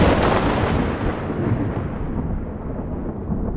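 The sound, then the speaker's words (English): A heavy roll of thunder from huge artificial lightning bolts, about 135 feet long, shot from a 20-story electrical tower in Colorado, rumbles continuously, its crackling upper edge fading away while the deep low rumble carries on steadily to the end, with no voices. “The thunder that these bolts generated was audible 15 miles away.”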